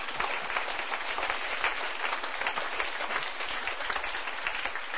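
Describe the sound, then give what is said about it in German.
A church audience applauds steadily for several seconds as a clap offering in praise of God, a dense wash of many hands clapping at once with no voices on top. “Das ist ein Klatschopfer wert, ihr Lieben.”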